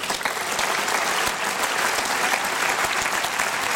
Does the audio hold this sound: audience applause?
yes